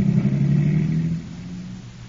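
car engine driving away

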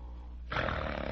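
man snoring in bed

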